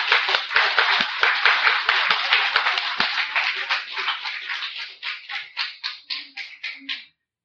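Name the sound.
audience clapping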